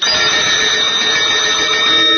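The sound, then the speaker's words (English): Bells ring continuously and loudly, a dense, shimmering wash of bright metallic tones that holds steady for a couple of seconds with no voices over it. “Hey, you hear these bells, don't you?”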